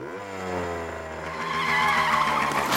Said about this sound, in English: On the sidewalk, Peppermint Patty skids to a stop on her motorcycle.